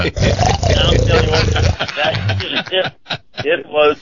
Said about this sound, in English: And it was a truck driver snore. It was. She has a snore of a 6'8 linebacker.